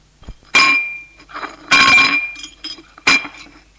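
Ceramic plates clink together three times, sharp bright impacts with ringing tones, separated by quieter shuffling and scraping as dishes are handled and a plate is taken.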